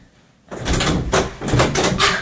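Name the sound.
door being opened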